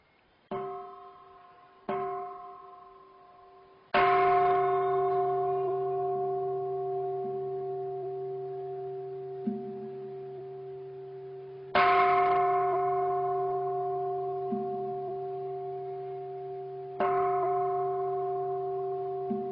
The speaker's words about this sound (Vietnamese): Chuông cuối cùng rồi mới sướng tụng. Đây là cái cách khai chuông mỏ theo cái phong cách của nghi lễ Phật giáo miền Nam.